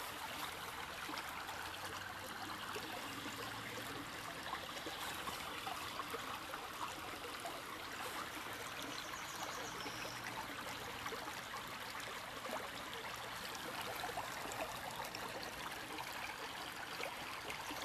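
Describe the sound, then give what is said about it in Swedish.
The river Närpes å babbles and gurgles steadily, a continuous bright wash of flowing water, with no voices and no break in the sound from start to finish. “Ni kan fortsätta att lyssna på den här ljuvliga stämningen från Närpeså, Porlet.”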